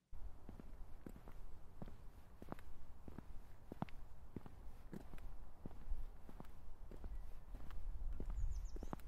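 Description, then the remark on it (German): Steady footsteps of a person approaching, walking at an even pace, each step a crisp thud repeating roughly twice a second over a low, rumbling background, with no voices. “Elftausendsiebenhundertsiebzig Schritte. Ich nähere mich.”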